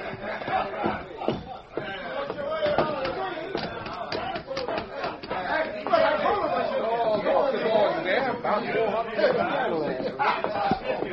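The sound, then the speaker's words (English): Steady, dense crowd chatter fills a busy cafe in early evening, many overlapping voices murmuring at once with no single speaker standing out, holding a fairly constant level throughout. “They walked through the crowd to the back of the cafe and sat at an out-of-the-way table.”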